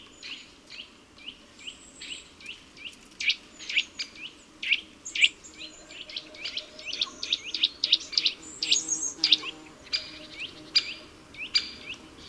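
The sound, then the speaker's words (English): A blue nuthatch, running upside down along a tree trunk and gripping the bark with its claws, sings a lively string of high, quick chirps and whistles, repeated in bursts for several seconds over a faint, steady outdoor hum, with no voices. “Their strong claws allow him to hold onto the bark to make these strange movements while singing.”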